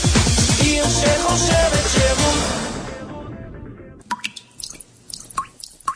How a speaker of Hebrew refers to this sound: אחרי 4 שנות בצורת, הקיץ הזה משתמשים במים בחוכמה ומתקנים נזילות בכל ברז מטפטף.